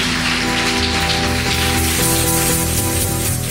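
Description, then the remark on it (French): A church audience claps and cheers in acclamation during a bishop's sermon, a loud, dense, continuous wash of applause, with sustained musical tones running underneath throughout. “Ton voisin ne veut pas acclamer, dérange-le par une acclamation.”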